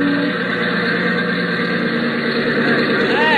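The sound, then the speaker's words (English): A small airplane engine, running rough from a thinned-out fuel mixture, runs steadily at low power while taxiing over to the hangar after landing at an airport; a loud droning hum with a rough, throbbing tone and no break. “And then she'd be coming in for a landing and taxiing over to the hangar.”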